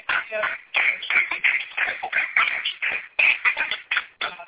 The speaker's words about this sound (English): Now clap your hands and give God a prayer.